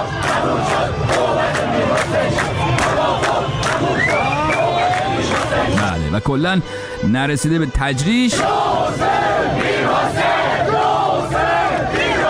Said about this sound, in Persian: همینطوری رقص و پایکوبی کنان به سمت ونک و اینا که می رفتن، حوالی میدان ونک بود که ملت داد زدن توافق تموم شد.